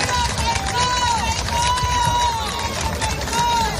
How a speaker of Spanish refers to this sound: Don Felipe ha inaugurado la nueva ciudad de la justicia de Vigo y también la Feria Internacional de la Industria Naval. A su llegada a ambos sitios le han recibido con gritos de ¡Viva el rey!